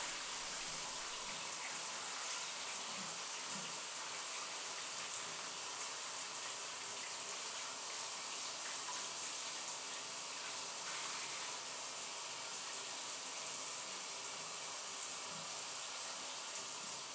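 Running water pours in a steady, unbroken hiss for the whole stretch as shampoo is rinsed from hair, soft and even with faint splashing variations and no voices.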